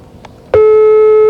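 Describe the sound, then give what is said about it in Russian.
A telephone busy-signal tone on a call to Filimon sounds loud and steady, a single mid-pitched electronic beep that starts abruptly after a faint click and holds unbroken to the end, with no talking. “Это гудки Филимона.”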